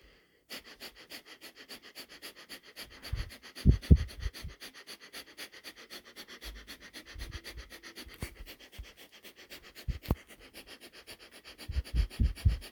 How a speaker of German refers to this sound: Und wir atmen durch die Nase ein und aus.